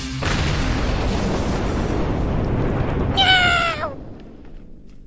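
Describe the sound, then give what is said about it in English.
A single drawn-out cat meow rings out near the end, clear, over a loud, continuous rumbling roar that fades away just after it. “That damn cat.”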